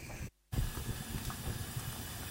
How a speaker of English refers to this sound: So I think you can hear my mince bubbling away there. The thing is to make sure that the mince gets browned, so it's slightly brown.